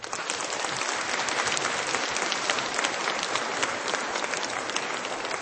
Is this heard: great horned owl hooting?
no